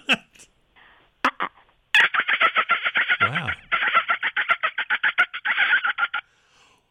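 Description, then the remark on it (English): A person imitates a dolphin with a rapid run of high, chattering clicks and squeaky bursts, steady for about four seconds, then a short exclamation from someone else. “Can I do my dolphin call sure. before we end?”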